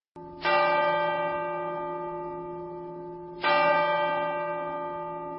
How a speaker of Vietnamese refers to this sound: Nghe đồng hồ ở ngoài gõ 7 giờ.